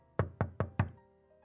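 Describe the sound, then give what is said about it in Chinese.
Four firm, evenly spaced knocks on a door, fairly loud, followed by quiet room tone. No one speaks. “我正在穿衣服打算去超市蹭空调的时候，突然就听到有人在敲门，赶忙匆匆地整理了一下。”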